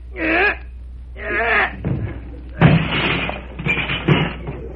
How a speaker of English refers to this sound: Oh, I always have trouble with that darn door.